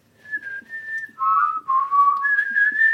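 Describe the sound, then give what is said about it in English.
A person whistles a short melodic movie theme tune, holding sustained notes that step down then rise again, with no talking over it. “there'd always be someone, there'd be like a break, and then there'd always be someone just whistling the theme tune.”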